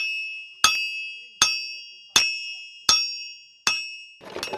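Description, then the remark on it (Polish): A farrier's metal tools, hammers and pincers kept in a toolbox for nailing on horseshoes, clink sharply. There are five evenly spaced ringing strikes, each fading slowly, before a brief rustling clatter at the end. No one speaks. “Ta walizka to młotki, obtęgi. Wszystko, co potrzebne, żeby przybić podkowy, to mam w tej skrzynce.”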